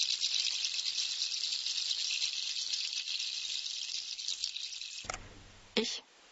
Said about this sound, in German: Ich bringe ihr ein Opfer, um sie gütlich zu stimmen. Ziegenfüße. Wenn sie also Ziegenfüße hören, muss ich mein Experiment unterbrechen.